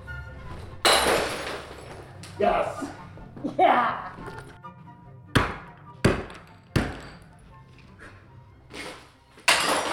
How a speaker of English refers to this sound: And you pick out like a milk crate's worth of breakables. And then you take them into this little room and you close the door and you smash them.